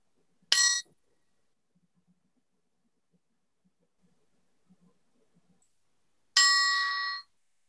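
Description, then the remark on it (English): A meditation chime marking a moment of silent meditation rings out clearly, its bright metallic tone shimmering briefly, then a quiet pause of several seconds before a second strike rings again and fades. “And we'll have a moment of silent meditation that will be started and ended with a chime.”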